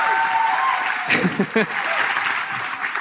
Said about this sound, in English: So I wanted to, most of all, just thank you and get a round of applause for your work on the beatdown.